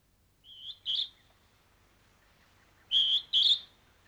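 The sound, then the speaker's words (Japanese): A Hodgson's hawk-cuckoo, called jūichi ("eleven") in Japanese after its call, gives two shrill, high whistled two-note calls that sound like "jūichi", the second pair louder, with a pause between them against a quiet background. “だからこれはね、あの11って名前なんですよ、この鳥。”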